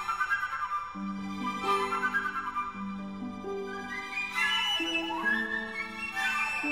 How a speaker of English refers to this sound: The sound on a flute is made just like the sound on a whistle. You blow air past a hole. Unlike a whistle or any other woodwind, flutes and piccolos stick out sideways to the right of the person playing them.